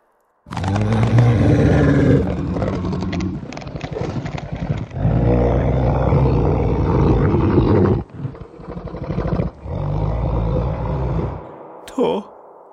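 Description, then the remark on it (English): A long, loud, rumbling dinosaur growl that surges and falls in several throaty waves over about twelve seconds, ending with a brief high-pitched screech. “There was a moaning, though, a shadowed shuffling as something clicked, popped, then a dinosaur growl.”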